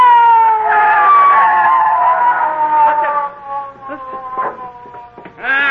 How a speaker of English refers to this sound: McGee, I hear a siren. Oh, so do I. It's the police, McGee. It's the police.